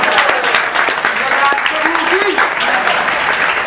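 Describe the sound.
A crowd gives a round of applause for their temple president, many hands clapping in a dense, steady patter that stays loud throughout, with a few voices calling out faintly beneath it.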